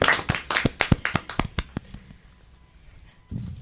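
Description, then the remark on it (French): Brief applause from a small audience: a dozen or so sharp, distinct claps in quick succession for about two seconds, then tapering off into quiet room tone before a low sound begins. “On peut applaudir, je crois, cette belle parole.”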